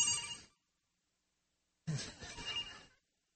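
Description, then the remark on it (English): A phone ringtone plays during a sermon in two bursts, a short one then a longer one after a pause of more than a second, with bright melodic tones sounding fairly loud. “Oh, don't let me forget my phone.”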